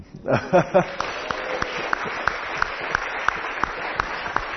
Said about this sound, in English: And can we just give a round of applause for the youth for all they've done this morning? And a round of applause for our fearless leader,